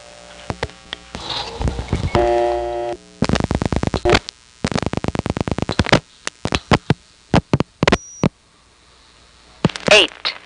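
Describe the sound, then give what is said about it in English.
A rapid series of sharp electromechanical Automatic Number Identification (ANI) clicks on a long distance telephone call from a number one step switch, New Haven, Connecticut, arriving in bursts separated by short pauses, over a low line hum with a brief steady tone near the end. “Before it starts announcing the number, you'll hear a series of clicks that are associated with long distance calls from number one steps.”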